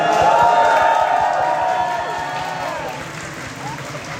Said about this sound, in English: Then, silence filled the room as the countdown hit 1 minute. T-minus 15 seconds. E-minus 10, 9, 8, 7, 6, 5. Finally, an applause at liftoff.